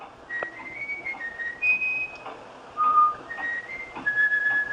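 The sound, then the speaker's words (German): A bullfinch whistles a folk tune: a slow series of pure, flute-like held notes that step between higher and lower pitches, clear above a steady background hiss. “Und offenbar haben die Gimpel einen so großen Speicher, dass so ein Volkslied da reinpasst.”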